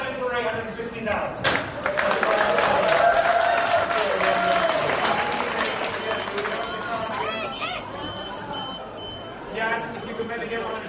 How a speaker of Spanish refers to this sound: De repente un pitido que estamos escuchando, ¿no? Ese sonido intermitente y la gente asombrada mirando lo que ocurre delante de sus propios ojos